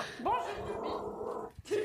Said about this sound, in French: Oula, oh, le petit chien qui aboie.